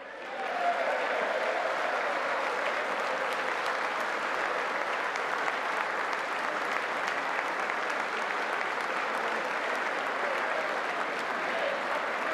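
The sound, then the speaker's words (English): Sustained audience applause after President Trump calls for bipartisan legislation to lower prescription drug prices, a dense, steady wash of clapping that holds at an even, fairly loud level for the whole stretch with no voices standing out. “Extending that applause there a little bit, chance of HR3.”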